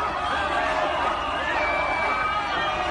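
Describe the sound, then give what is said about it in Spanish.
A large crowd at a demonstration in Barcelona roars steadily, booing King Felipe VI and chanting "fuera, fuera" ("out, out") together in a dense, continuous wall of sound that holds at a constant loud level throughout. “Gritos de fuera, fuera, abucheos.”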